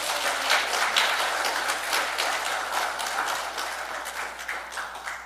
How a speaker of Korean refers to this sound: 아멘. 박수 한번 치시죠.